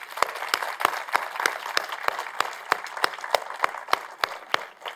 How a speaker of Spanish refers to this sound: ¿Cuántos padres tenemos en sala? Ok, muchas gracias, un aplauso para ellos.